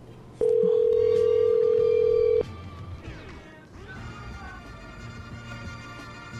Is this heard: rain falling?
no